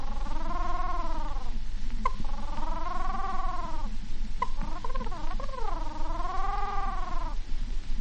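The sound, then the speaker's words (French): A man, a professional imitator, imitates a little pigeon's cooing with his voice: three or four long, wavering, throaty coos with short pauses between, fairly loud over a steady background hiss. “Le petit pigeon.”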